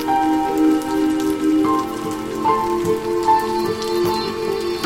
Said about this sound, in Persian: نم نم بارون.